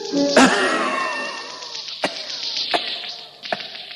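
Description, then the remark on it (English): A voice imitates a struggling engine, holding a buzzy, raspy drone broken by a few sharp sputtering grunts at uneven intervals, fairly loud. “Till all at once, the engine gave a series of horrible grunts.”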